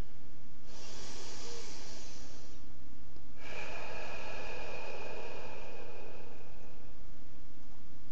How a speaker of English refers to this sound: Can you feel the expansion of your ribs as you breathe? Can you feel the ribs flexing in and out as you breathe?